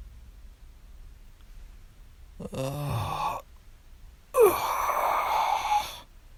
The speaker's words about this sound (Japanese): あくびをする。